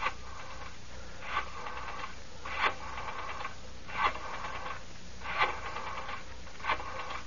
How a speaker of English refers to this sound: I wrote down my address and began dialing my telephone number.